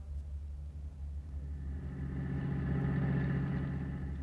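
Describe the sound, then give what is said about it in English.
A car engine runs steadily with a low, humming rumble that grows a little louder and fuller halfway through, as if revving slightly. No one speaks. “I'll meet you outside in the car.”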